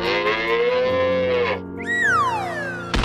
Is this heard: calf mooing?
yes